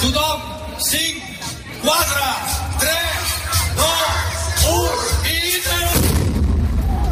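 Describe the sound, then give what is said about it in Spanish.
Heavy booming blasts from a liquid nitrogen barrel exploding after a scientist's countdown, at a science outreach event in the outdoor courtyard of the Casa de la Cultura in Girona, with a deep low rumble, while a crowd shouts and whoops excitedly over and between the bursts. “Este fue el momento en el que, tras la cuenta atrás de uno de los científicos, se produjo una fuerte explosión en el patio exterior de la Casa de la Cultura de Gerona.”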